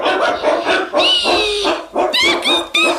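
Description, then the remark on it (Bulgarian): A dog barks loudly in a rapid string of sharp barks, some drawn out into high, whiny yelps, with no one talking. “иди с кучето!”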